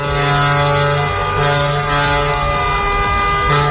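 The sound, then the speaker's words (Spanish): Horns of dozens of protesting trucks blare continuously in a loud, overlapping chorus as they jam traffic in central Oviedo around the Palacio de Calatrava, with sustained low tones layered over the rumble of heavy engines and traffic, no talking. “La de protestas de camiones colapsando las ciudades. Este sonido es de Oviedo, donde decenas de camiones colapsaban el tráfico en el centro y en el entorno del Palacio de Calatrava, donde se está celebrando el Congreso del PSOE.”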